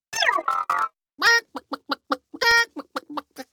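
A chicken clucks in a quick, uneven series of short calls, with two louder, drawn-out squawks among them. Clear, with no voices.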